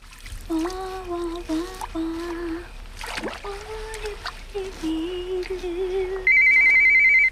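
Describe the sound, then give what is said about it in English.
A cordless phone rings with a loud, steady electronic trill near the end. Before it come wavering tonal sounds and some splashing, during a candlelit bath. “She frowns at the cordless phone, then picks it up.”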